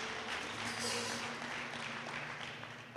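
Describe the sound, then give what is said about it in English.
A crowd claps steadily for the Holy Ghost, a dense wash of many overlapping hand claps lasting the whole stretch, with a low sustained hum beneath and the clapping easing slightly toward the end. “Clap your hands for the Holy Ghost.”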